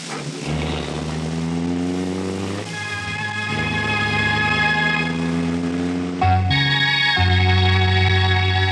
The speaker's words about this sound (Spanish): Se inicia una cautelosa persecución. Los dos carros avanzan a regular velocidad en medio del tráfico intenso de esas calles céntricas.